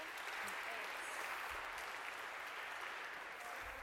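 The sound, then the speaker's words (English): A crowd of people applauds nine volunteers steadily, a dense, continuous patter of many hands clapping at once that holds at an even level for several seconds. “And now we need 9 stress balls and a round of applause for these guys, if we could.”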